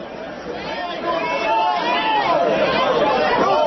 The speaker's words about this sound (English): So just a couple of minutes now, and you can hear individual voices in the crowd. Just a couple of minutes for you to hear what an angry coal thug mob sounds like.